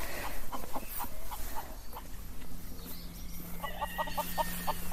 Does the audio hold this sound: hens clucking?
yes